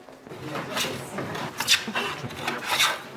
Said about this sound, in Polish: No i dobra, i zobaczmy, jak ona się zmieni pod wpływem heblowania.